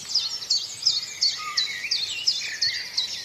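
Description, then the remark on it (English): A chiffchaff, a blackbird and a wren sing together outdoors: a steady, evenly spaced series of high two-note chirps runs throughout, with richer warbling phrases and quick trills from the other birds mixed in. “So that's your chiff-chaff there. Chiff-chaff, blackbird and wren going.”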